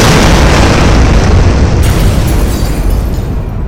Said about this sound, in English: The explosion lights up the darkening sky. The Rangers cheer as Cyclopsis falls from the air and crashes to the ground below.